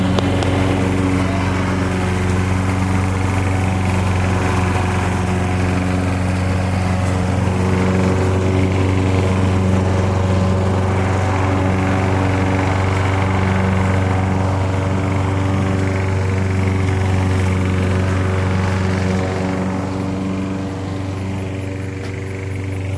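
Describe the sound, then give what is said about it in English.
A lawn mower engine drones steadily and loudly while mowing, its harmonic hum holding constant for the whole stretch with slight surges, no voices over it. “Let's see, what else can I tell you about mowing that's essential to know, besides being very careful not to get your foot under it?”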